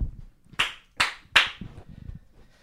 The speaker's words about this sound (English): Thank you. I like that one clap.